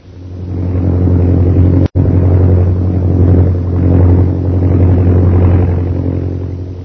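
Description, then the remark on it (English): The engine of a chartered propeller airplane, leaving Shanghai bound for Mandalay, drones steadily and loudly, a deep humming rumble that holds constant throughout, broken only by a split-second cut near the start. “So Jungle Jim, Kolo, and Peter Hawkins board the chartered plane at Shanghai, Mandalay bound.”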